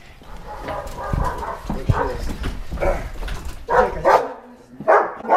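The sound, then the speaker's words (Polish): Several dogs bark and yip in short, irregular bursts, with the loudest barks clustered toward the end and a low rumble of background noise throughout. “Może ja panu zaprowadzę tam pieski.”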